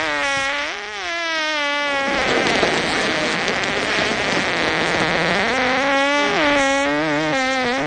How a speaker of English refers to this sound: Gentlemen, that was a fart.